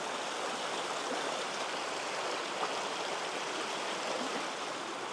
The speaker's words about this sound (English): Listen to the river.